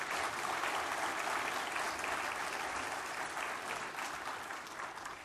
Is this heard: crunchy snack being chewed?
no